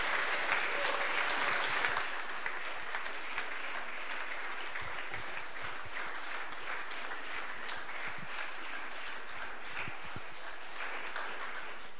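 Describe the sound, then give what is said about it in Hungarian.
A crowd applauds the pastors at a youth gathering, a dense wash of many hands clapping at once that holds a fairly even level for about twelve seconds, with no voices heard over it. “Úgyhogy egy nagy tapsot kérünk nekik, hogy velünk voltak.”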